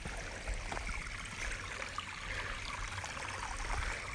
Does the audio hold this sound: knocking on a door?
no